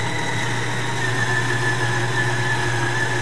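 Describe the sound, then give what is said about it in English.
A KitchenAid coffee grinder grinds beans steadily, its motor giving a loud, even whine with a low droning hum underneath and a gritty texture throughout, no voices over it. “You're not probably going to be able to hear me while I grind”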